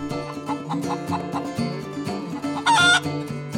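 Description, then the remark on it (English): Chickens on a small backyard farm cluck in short repeated bursts over a steady tonal background, with one louder, drawn-out squawk rising near the end. “I'm a backyard chicken farmer, or maybe even larger than chicken farmer, because this is a small farm here.”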